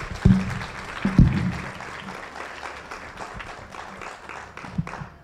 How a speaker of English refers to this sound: Give him a hand clap. Thank you so much.